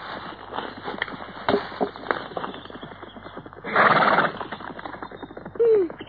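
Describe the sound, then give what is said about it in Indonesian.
Hooves clip-clop in a steady rhythm on hard ground, then a horse lets out a loud, breathy whinny near the middle, followed by a short snort toward the end. “Di sini ada seekor kuda.”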